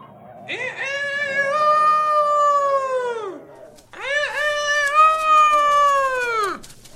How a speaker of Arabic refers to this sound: أعزائي، نهض الديك ذات صباح كعادته وأخذ يصيح بأعلى صوته.